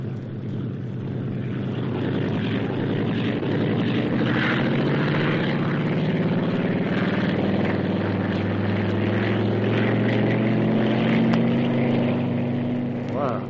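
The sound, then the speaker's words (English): A propeller plane flown by test pilot Stan Mercer roars as it takes off, its loud engine drone climbing steadily in pitch and holding strong throughout. “Take off, like he was driving a jeep.”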